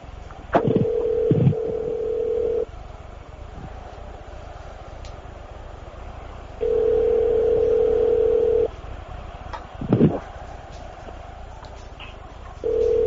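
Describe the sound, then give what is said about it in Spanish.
A telephone ringback tone from a call to the president of Costa Rica, Luis Guillermo Solís, made live on Cadena COPE radio: a steady low-pitched electronic tone sounding in two-second bursts with about four seconds of quiet between, repeated three times over faint line hiss and a few clicks. No one speaks. “Estamos llamando al presidente de Costa Rica.”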